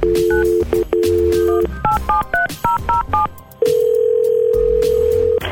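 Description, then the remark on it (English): A telephone dial tone breaks off into a quick series of touch-tone beeps as radio station 96.1 Bob FM dials a listener's grandmother, followed by a long, steady ringing tone on the line. No one speaks. “We're going to get her phone number. We'll connect you guys, and I'm sure this is going to be just fine.”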